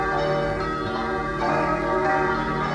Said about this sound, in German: Ja, heilige Bimbam. Jetzt höre ich nochmal ein Geläut. Aber das sind jetzt unsere, vom St. Christophorus Sänger.